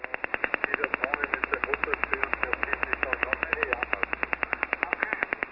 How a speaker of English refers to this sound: He says that the latest over-the-horizon radar signal was about 10 kilohertz wide when it was heard and recorded on 14.305, and that it kind of sounded a lot like the infamous Russian woodpecker radar system of days gone by.